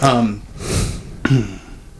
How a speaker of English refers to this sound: Coughing.